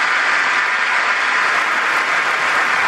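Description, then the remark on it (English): Sustained, dense applause from a large crowd in a legislative chamber during a speech about a commando rescue of hostages, steady and loud throughout with no pauses and no voices rising above it. “Stand up, you rats. Stand up and applaud.”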